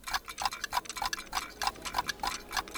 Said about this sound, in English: At the Design Museum in London, Daniel Veal's clocks tick.